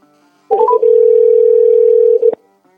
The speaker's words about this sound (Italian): Io chiamo intanto, Vediamo un po' se ci risponde, se squilla.